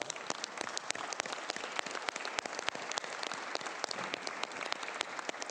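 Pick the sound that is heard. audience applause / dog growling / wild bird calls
audience applause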